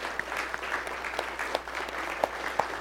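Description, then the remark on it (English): A church audience applauds steadily to thank staff for their service, a dense wash of many hands clapping with scattered louder individual claps popping out, moderate in volume and with no voices. “So let's offer them a word of thanks and applause for them.”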